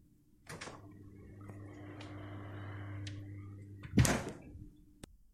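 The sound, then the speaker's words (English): A fridge door pops open as milk is fetched, followed by a steady low electrical hum for a few seconds, then the door shuts with a loud thunk and a faint click follows. No one speaks. “Oh yes, I can get you the milk from the fridge.”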